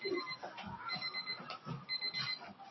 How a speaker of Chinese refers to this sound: 时间到，请同学停笔。再提醒一次，以后钟响我们就请同学停笔，如果你没有停笔继续写，叫做违反考试规定